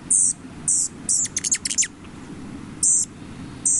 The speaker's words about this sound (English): These citizen scientists count birds across North America as they migrate south for the winter, and these bird enthusiasts are among the first to spot a bird like this Rufus hummingbird.